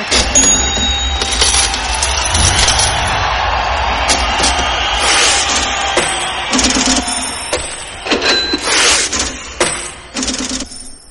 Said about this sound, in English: The sound of change and the sound of money in bills. My pocket.